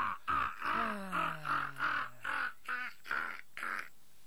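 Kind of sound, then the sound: bird, raven cawing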